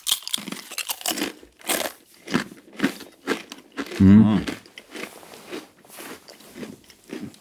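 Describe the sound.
Repeated loud, crackly crunches of someone biting and chewing salty crispbread close to the microphone, coming in a steady series of dry bursts, with a brief murmured voice partway through.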